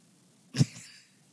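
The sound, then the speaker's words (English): A cat lets out one sharp, sneeze-like burst, followed by a brief breathy tail that quickly fades, with a quiet background and no talking. “Yeah, it is a cat.”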